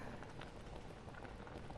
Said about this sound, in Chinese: 锅里的水开了，下一面吧。